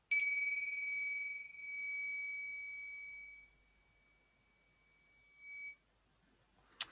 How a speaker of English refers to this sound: When you're ready, opening your eyes and noticing how you feel. And I'll just ring the bells gently this time to bring everyone back.